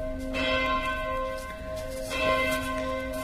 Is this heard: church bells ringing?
yes